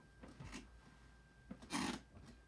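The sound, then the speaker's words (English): A chair creaks and squeaks in a few short, scratchy bursts, with a louder, harsher groan near the end and quieter rubbing strains before it. “I got to put some WD-40 on my chair.”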